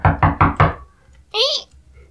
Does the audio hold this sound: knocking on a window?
yes